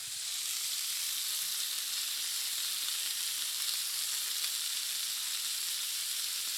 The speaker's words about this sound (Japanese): 10分漬けた豚肉を焼いていきます。フライパンにサラダ油を熱して汁気を軽く切った豚肉を入れていきます。火加減を中火に落として、しめじも加えて豚肉を美味しそうな焼き色がつくまで焼いていってください。